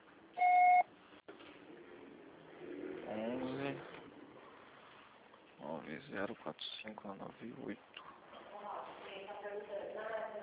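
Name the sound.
voicemail recording beep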